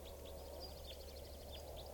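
A juvenile type 4 crossbill gives a rapid series of short, high chip notes, fairly faint against a steady low hum and background noise, with no voices.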